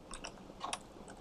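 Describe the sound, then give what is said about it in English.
A handful of soft, irregular clicks from keys being tapped on a computer keyboard while entering commands, fairly quiet, with short pauses between presses and no talking. “Not good at typing today.”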